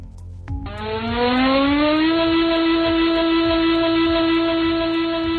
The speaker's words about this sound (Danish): Afvarslingssignalet er en lang tone, der varer 45 sekunder.